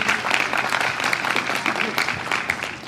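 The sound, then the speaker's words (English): An audience applauds steadily, a dense wash of many hands clapping at a fairly even loudness for the full few seconds, with no one speaking over it, applauding a panel of gardening experts on a festival stage by the Rose Tea Garden. “Can we have a round of applause for our panellists?”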